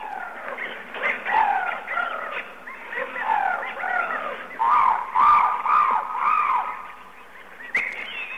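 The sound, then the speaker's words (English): A dense chorus of tropical birds calling over one another, with warbling, whistling and squawking notes that carry on steadily and loudly throughout, and no one speaking. “Ah, tropical birds.”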